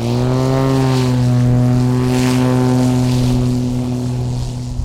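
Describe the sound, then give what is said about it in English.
A small propeller air-taxi plane drones steadily in flight on a short hop across the Naknek River, its engine hum loud with strong, even harmonic tones and a constant airy roar, no voices present. “It's a short flight. The plane will touch down on the south side in less than 5 minutes.”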